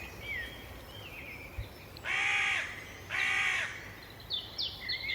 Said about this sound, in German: Die Natur, die Vögel in der Luft